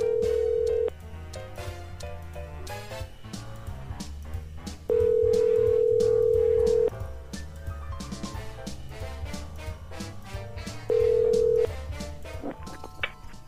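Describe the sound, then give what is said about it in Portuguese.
A phone line rings out with long, steady ringback tones, three of them spaced several seconds apart, over quieter rhythmic music playing underneath. “Bom, nós vamos ligar a alguém.”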